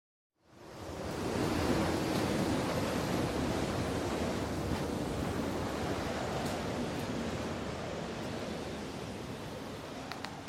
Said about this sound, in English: It's the wind. Sounds like cats fighting.